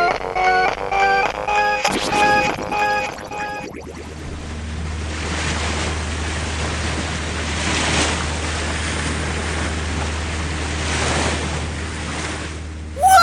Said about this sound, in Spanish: ¡Qué divertido, profesor Paracelso! ¡Me encanta viajar en lancha! ¡Agárrate bien, muchacho! ¡Ya casi llegamos a las Islas Marías para ver los arrecifes de coral, profe!